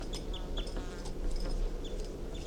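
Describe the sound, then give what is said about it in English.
A crossbill, bird 251, gives several short, high-pitched chip calls at irregular intervals, fairly faint over a steady low rumbling background noise, recorded at 3:34 p.m. on July 28th. “And bird 251 is vocalizing.”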